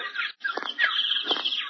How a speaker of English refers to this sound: That's a woodpecker.